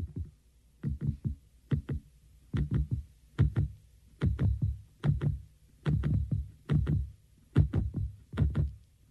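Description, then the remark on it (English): A song from 1974 opens with deep, muffled thumps in steady paired beats, like a heartbeat, repeating throughout at moderate volume with faint higher clicks on each beat and no voices. “I thought someone was checking my heartbeat through a stethoscope.”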